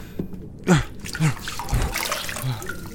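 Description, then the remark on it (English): Water splashes and trickles in a wash basin in a small, simple room as someone splashes water on their face, in several short, uneven, moderately loud bursts, while a voice speaks quietly underneath. “It's a small, simple room with a wash basin and a bed.”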